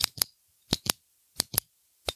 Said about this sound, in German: Das werde ich über meinen Kuli drüber streichen. Das hört man wahrscheinlich gar nicht.